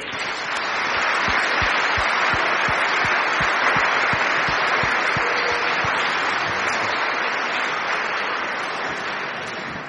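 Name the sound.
audience applauding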